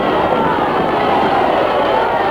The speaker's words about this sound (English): You should have heard the crowd cheer as we went through the door. They were just adoring us.